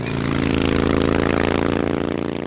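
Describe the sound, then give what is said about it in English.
A Harley-Davidson motorcycle engine rumbles loudly, a thick, steady throbbing revving throughout the short stretch, with no voices. “And if there is something about motorcycles in general, there is more than a mere something about Harley Davidson motorcycles.”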